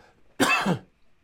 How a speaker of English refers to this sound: Excuse me, I have to cough here.